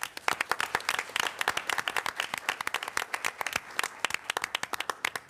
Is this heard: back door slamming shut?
no